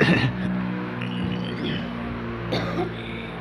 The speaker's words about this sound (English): Well, I'll wait for the plane to go over first.